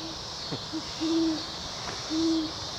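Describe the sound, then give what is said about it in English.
Two owls, Charles and Sarah, only a few feet apart, trade low, steady hoots back and forth in a slow duet, each call a sustained tone, against a hissy outdoor background with no talking. “The owls moved even closer together and were only a few feet apart.”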